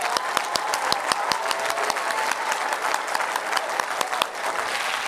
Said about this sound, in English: Clap your hands till they hurt a little bit.